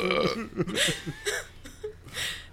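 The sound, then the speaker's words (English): A long, loud burp rumbles, stretching out over a couple of seconds in several croaky, wavering pulses with no talking around it. “And then you burped on it.”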